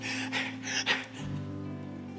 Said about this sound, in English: Panting almost.